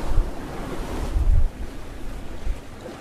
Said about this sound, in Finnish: Täällä on aika rapsakoita aaltoja. Joo. Tää on niin avointa tää. Joo. Tää vesialue jo tässä kohtaa. Ei oo mitään saarten suojaa. No, on tommosia metrisiä aaltoja.